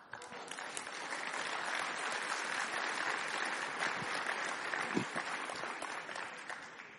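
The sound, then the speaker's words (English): Sustained audience applause for a dance troupe, a dense wash of many hands clapping steadily for about seven seconds, loud and even throughout with no voices standing out. “And let's have another round of applause for that fantastic dance troupe.”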